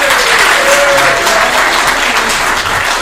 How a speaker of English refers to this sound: Okay, so now we'll go through all four of them and I'm going to hold them up and y'all cheer the loudest for the one you think that he's going to pick.